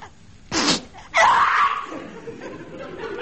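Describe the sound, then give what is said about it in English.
A single loud sneeze: a short sharp intake followed by a forceful, drawn-out burst that trails off into quiet background noise, with no talking. “Bless you, eh?”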